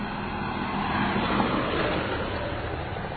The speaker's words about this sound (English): Here comes a truck. This is... I think it's more of a whim. One of those 18-wheelers without the 18 wheels. This is going by.